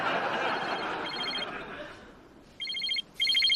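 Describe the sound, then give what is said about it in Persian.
A telephone rings in two short electronic trills near the end, sharp and fairly loud, after a stretch of murmuring background voices; it is Dr. Cooper's phone, which he does not answer. “ولی گوشی تو خاموش نکن، شاید از انجمن نوبل زنگ زدن و بهت گفتن نامزد جایزه کودن سال شدی.”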